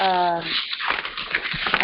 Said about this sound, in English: lot of paper noise is there